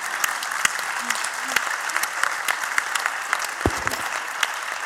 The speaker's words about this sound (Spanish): Señoras, aplaudan, please.